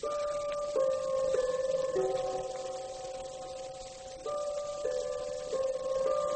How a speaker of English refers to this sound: That clock on the bookcase there, in 5 seconds, is going to strike the hour. Now, listen.